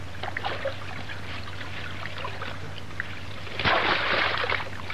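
Water trickles and laps steadily over a low hum, then a single louder splash bursts in near the end as someone steps into the water, followed by churning and sloshing.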